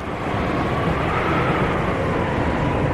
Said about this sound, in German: Was für ein Sturm!